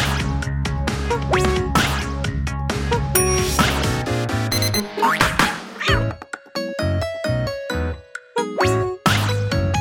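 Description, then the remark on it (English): A busy stream of electronic beeps and chiming tones, quick bursts at shifting pitches, loud, tumbling over one another with short gaps toward the end. No one speaks. “Okay. Beep.”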